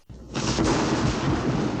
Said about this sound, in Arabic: الرعد هو مجرد صوت تسمعه قادما بسرعة شديدة من السماء. ولكن يا ماما، لماذا هكذا يكون صوته مخيفا؟